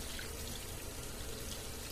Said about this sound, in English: I'm just pouring some liquid in here. Some liquid soap without the measuring cup. Because we can't find the cup